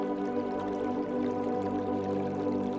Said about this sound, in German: Deshalb steigst du einfach über den flachen Strom und läufst ein Stück am Wasser entlang.